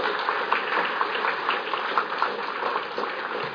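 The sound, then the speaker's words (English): A crowd claps steadily for several seconds, a dense, even patter of many hands with no voices rising above it, holding at a moderate level throughout. “I didn't tell anybody to clap, but that is absolutely right.”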